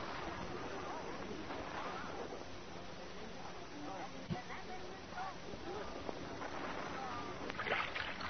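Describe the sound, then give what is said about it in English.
Steady sloshing and splashing of a rowboat being rowed fast through water, continuous, with indistinct voices murmuring over it. “Molly, don't row the boat so fast. I can't keep up with you.”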